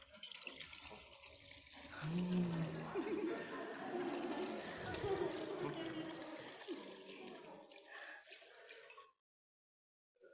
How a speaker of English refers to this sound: We use water as a sign of God's grace for each of you and for your sister. Can you help me pour this into the font?